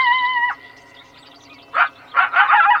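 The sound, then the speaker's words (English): Coyotes yipping: a short, high wavering howl opens, then after a quiet pause come sharp, excited bursts of yips and yelps, fairly loud, with no talking. “Coyotes roam around McLaren Park, Golden Gate Park, and they're commonly spotted in the Presidio.”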